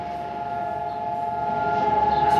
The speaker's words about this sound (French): Israël où aucun élève ne peut échapper à cette sirène. Elle résonne chaque année pour la commémoration de la Shoah autour du mois d'avril. C'est l'ensemble du pays qui se fige pendant 2 minutes